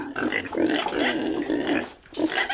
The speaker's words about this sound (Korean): 그런데 그곳 산에는 놓아 먹이는 많은 돼지떼가 있었다.